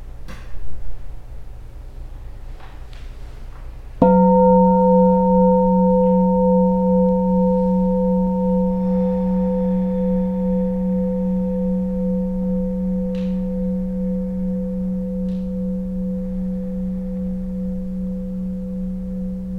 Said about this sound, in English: We have a bell. Can we enjoy the ride right now?